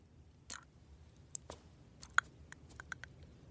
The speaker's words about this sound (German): Zunge impulsiv in Zungenbett fallen lassen.